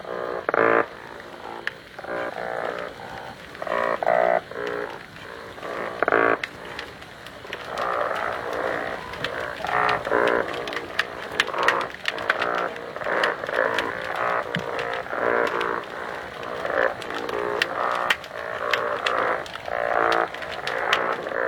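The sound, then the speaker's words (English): Dense, overlapping croaking hums of singing fish calling underwater, repeated harmonic grunts in a steady chorus with sharp clicks scattered throughout, continuous for the whole stretch with no talking. “We are hearing like two different kind of sounds. The one is kind of typical singing fish sound.”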